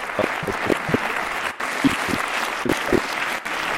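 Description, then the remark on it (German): A crowd applauds steadily, a dense wash of clapping at moderate loudness, with a few sharper individual claps standing out, as an audience welcomes a guest onto a stage. “Einen großen Applaus für”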